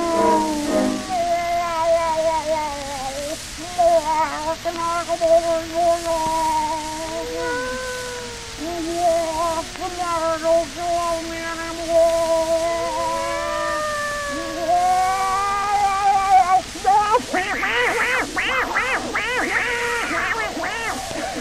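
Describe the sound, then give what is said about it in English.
A human voice imitates a cat, drawing out a long series of wavering, sliding meows and yowls that rise and fall in pitch, ending in a harsher, noisier burst. “How do you like my cat imitation?”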